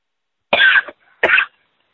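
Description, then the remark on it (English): Two harsh coughs about half a second apart, each a short, rough burst with a raspy throat-clearing quality, heard alone with no talking; a person coughing with a peanut or something stuck in the throat. “I got a peanut or something in my throat.”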